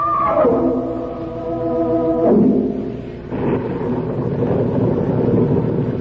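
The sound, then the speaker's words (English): Stormy wind howls loudly at night, a moaning whistle sliding downward in pitch before giving way to a steady, rushing roar of gusts that continues to the end. “There was a storm coming on, and I was driving into it, and the night was black, and I felt small and lonely and frightened in the car.”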